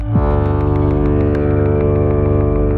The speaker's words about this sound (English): Low frequency sounds have longer sound waves. This means they can travel farther without bumping into as many particles and losing energy. This is why we use low frequencies anytime we need a sound to travel as far as possible, like a foghorn.